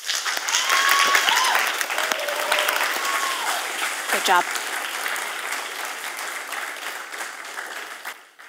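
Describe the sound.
Steady applause from an audience, a dense wash of many hands clapping that holds loud throughout and fades slightly at the end, with a brief spoken remark and a few whistles over it.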